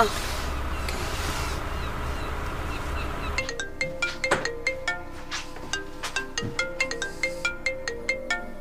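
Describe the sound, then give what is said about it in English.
A phone ringtone plays a quick, repeating melodic pattern of bright electronic notes, fairly loud, following a few seconds of rushing background noise. “Look, if you need help or there is something I can do for you, everything, just call me. You have my number”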